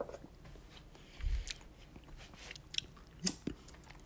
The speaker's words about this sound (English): Sorry for the chewing.